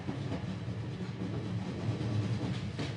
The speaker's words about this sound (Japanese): 電光掲示板の最後の一行を削り取って電車は再発進する。